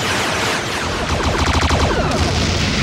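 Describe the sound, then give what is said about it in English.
A loud, sustained volley of sci-fi pistol gunfire as the Klingons all fire their pistols at the changeling posing as Martok, with rapid overlapping energy blasts forming a dense, continuous barrage that thickens in the middle before easing slightly, with no talking. “Martok tries to tentacle Odo to death, but the Klingons all turn around and whip out their pistols and unload, like, a predator amount of gunfire at the changeling.”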